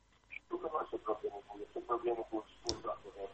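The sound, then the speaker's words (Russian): A radio receiver plays in a caller's room in Askania-Nova, heard over a telephone line during a live call-in broadcast: continuous muffled, tinny talk with a narrow, boxy tone and steady moderate loudness, plus one sharp click near the end. “Сделайте потише радиоприемник, вы слышите нас в телефоне.”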